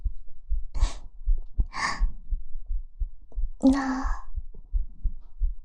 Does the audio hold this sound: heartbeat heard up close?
yes